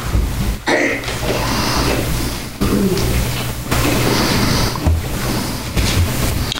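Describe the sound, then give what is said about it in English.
A steady, dense rustling of many book pages turning at once as people look up a scripture reading in Ephesians 5, a broad papery wash over a low hum, broken by a few abrupt brief pauses. “I hear pages turning, so I'll wait.”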